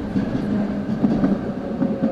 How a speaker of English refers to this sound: You know, you're picking up that sound from the person across from you, but you're also picking up sound from around them as trains roll by. There's the ambient sound is magnified. So it's a bit like being in a small cave where things are resonating.